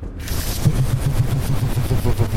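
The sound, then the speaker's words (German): Helicopter rotor throbbing as a helicopter slowly approaches: a rapid, steady run of deep, pulsing thumps over a broad rushing noise, fairly loud and heard on its own without any talking. “Du, ich glaube, dieses wabbernde Geräusch ist ein Hubschrauber.”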